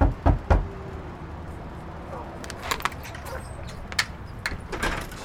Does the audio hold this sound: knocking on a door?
yes